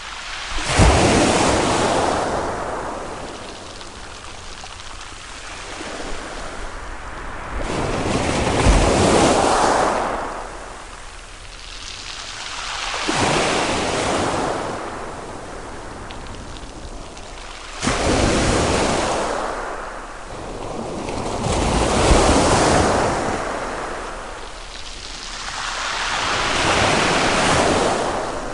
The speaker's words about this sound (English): Again, that's the sound of the North Sea recorded by our guest, Bernie Krause. And one can hear the music in that sound, that's for sure.